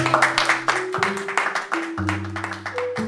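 An audience applauds with dense, continuous clapping over steady low sustained musical chords that shift a few times; no one speaks.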